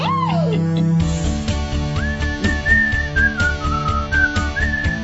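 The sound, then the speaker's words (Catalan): A bright, catchy whistled melody rises and glides over a steady rhythmic backing track, loud and upfront, with a short musical intro before the whistling begins. “que és enganxosa aquest xiulet”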